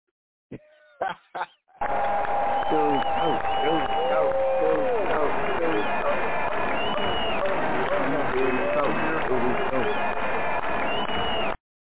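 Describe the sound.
A crowd cheers and applauds a comedian as he is introduced, loudly and continuously for about ten seconds, with whoops and shouting voices rising over the clapping, after a few brief bursts of noise at the start.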